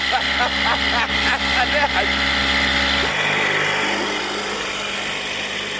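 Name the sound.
motorboat engine running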